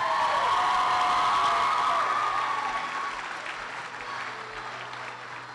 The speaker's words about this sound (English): Let's have a round of applause for our new prince